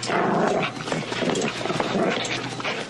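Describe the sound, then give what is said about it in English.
A pit bull dog on a rope growls and snarls continuously, with rough, agitated bursts that suggest barking and aggressive vocalizing, loud and sustained throughout. “Who the hell told you to put the dog on the rope?”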